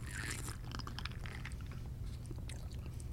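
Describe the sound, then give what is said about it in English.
Wet sipping and mouth sounds from someone drinking a hot ginger drink coloured like a pilsner beer, a cluster of small slurps and clicks over a steady low hum, with no talking. “so just sip, right? Or just sip.”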